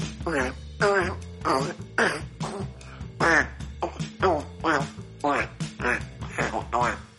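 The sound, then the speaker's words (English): A child's voice imitates a Parasaurolophus fart with a rapid run of about ten honking, quack-like voiced blasts, fairly loud, with no actual words. “This is the sound of a Parasaurolophus fart.”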